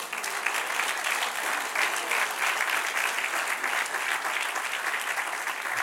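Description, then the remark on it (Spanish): An audience claps steadily for about six seconds, giving applause to the Lord, a dense, sustained patter of many hands at an even loudness throughout, with no voices standing out above it. “Dale un aplauso, Señor.”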